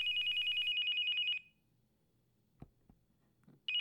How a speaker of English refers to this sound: With his heart still pounding, Daniel opens his eyes, rolls onto his side, and fumbles for the phone on the nightstand. He sees it's his sister who's calling.